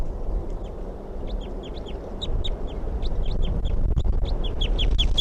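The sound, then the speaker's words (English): A wild bird calls over and over in quick, high-pitched chirps and yelps, the notes coming in an uneven but steady stream above a low, rumbling background. No one speaks. “Back up in the tree. Stop. Wild bird.”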